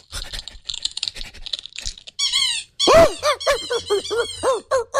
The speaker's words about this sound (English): That's the sound of eating.